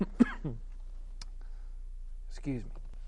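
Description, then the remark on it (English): Two short throat-clearing coughs from a person with a pollen-filled throat, separated by a quiet pause with a faint click between them; no words are spoken. “Excuse me, I have a pollen-filled throat this evening, it feels like, so I have a little cough here and there, so I may glitch in and out a little bit as I get a drink”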